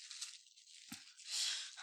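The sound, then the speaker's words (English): A plastic bag crinkles in a steady, crackling rustle, with one soft thump partway through and the crinkling swelling louder near the end. No one speaks. “See? Plastic bag.”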